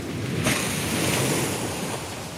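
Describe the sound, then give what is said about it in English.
A big splash of ocean water erupts as an animal lifts its flipper too close to a boat, a sudden bright rush that keeps churning and washing for a couple of seconds over steady wind and surf, with no voices. “It's lifting its flipper. It's too close to the boat. Oh my God, it's going to splash.”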